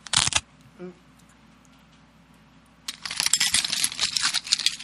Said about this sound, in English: That's what, you've heard that before, right? The sound of chewing on glass. That's what it said.